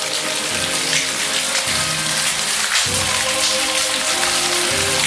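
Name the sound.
steady rain falling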